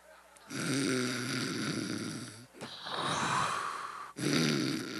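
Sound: person imitating snoring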